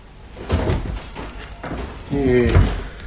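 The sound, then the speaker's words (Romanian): A door opens with a few dull wooden thumps and knocks as a tired father comes in, then a person's voice briefly sounds over the end of the movement. “Când răsturnă mămăliga, taică s-o intră pe ușă obosit.”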